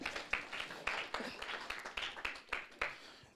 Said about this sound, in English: Everybody clap for yourselves.